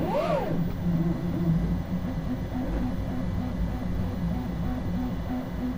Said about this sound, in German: Aus digitalen Modellen entstehen echte, greifbare Objekte. Und so klingt ein 3D-Drucker.